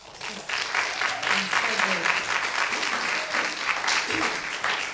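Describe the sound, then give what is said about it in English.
Steady audience applause, a dense wash of many hands clapping, with faint murmurs of voices mixed underneath, as the audience claps again for the performers just heard at the start of the second half of the night. “Let's clap again for all the people we just heard.”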